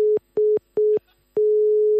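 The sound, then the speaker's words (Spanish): A phone line's steady tone at a mid pitch, broken into a few short on-off bursts that give way to one continuous tone, with clicks at each break, as a call to a federation's switchboard drops. “Que he llamado antes, pero se ha cortado.”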